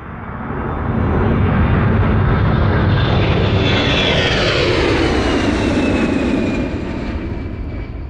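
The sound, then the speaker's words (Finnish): A loud, steady airplane engine roar, as heard from inside the passenger cabin, used in the performance artwork Airplane, where the audience sits as in an airplane; a thin whine slides up and down in pitch over the dense rumble, swelling in and easing slightly at the end. “Tässä teoksessa yleisö istuu kuin lentokoneessa.”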